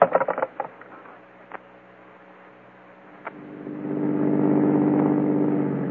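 A car engine hums steadily while driving, after a few sharp knocks at the start; midway the engine swells louder and rougher, as if accelerating, with no voices.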